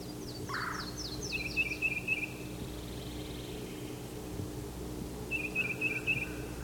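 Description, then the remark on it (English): A yellow-throated warbler calls with a quick descending run of clear, high notes, followed by two bright, rapid trills a few seconds apart, over a steady low hum. “There's the yellow-throated warbler.”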